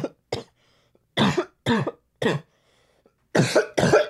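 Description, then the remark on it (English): A string of loud coughs comes in two bursts: a few sharp hacks, then a trio of harsh coughs, and finally a quick double cough, with short silences between and no talking. “Do poppers make you cough?”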